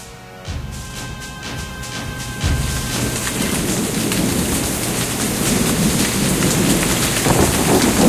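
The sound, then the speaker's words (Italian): A steady April rain shower pours down, its hiss building over a few seconds, while low rumbles of thunder roll in early and sit beneath the dense patter. No voices. “E allora, una pioggia di aprile ci introduce in questa serata.”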